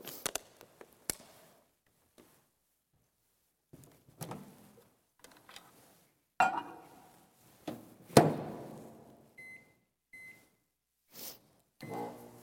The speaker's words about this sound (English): Now I'm going to go to my microwave here and I'm going to use my prop.